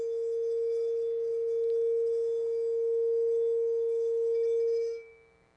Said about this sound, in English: If you've never heard a singing bowl, then what you've probably seen someone do is to play a wine glass.